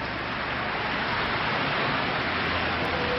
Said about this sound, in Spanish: mientras no deja de llover en esta capital.